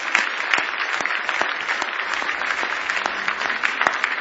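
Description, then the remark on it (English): A church audience at a Saturday night service claps hands in praise of the Lord in a steady, dense burst of applause, many overlapping sharp claps holding an even loudness throughout, with no voices standing out. “Give the Lord a big hand clap of praise if you love him tonight.”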